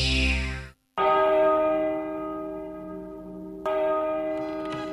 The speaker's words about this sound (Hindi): अखन स्टूडियो के घड़ी में बेरिया के 3 बाज रहल अछि।